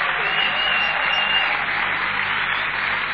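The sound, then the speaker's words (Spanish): A church audience applauds after a testimony is read, a steady, dense wash of many hands clapping together at an even loudness for the full three seconds, with no pauses or single claps standing out. “Vamos, alguien que aplauda.”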